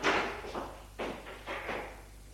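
Several firm knocks by a mother on a bedroom door, about five dull thuds in an uneven rhythm with a short pause partway through, heard alone with no voices.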